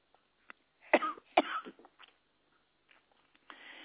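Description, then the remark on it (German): Two loud coughs about half a second apart, trailing into softer throaty sounds, with a few faint clicks and a low rustle afterward. Nobody speaks. “Ich hatte, ja, da muss sogar der Kanal husten.”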